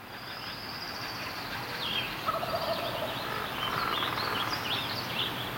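A busy dawn chorus of many birds in an oak forest in California, recorded in 2014, with overlapping chirps, trills and whistles, including a woodpecker, from several directions over a steady rushing background, continuous and fairly loud throughout.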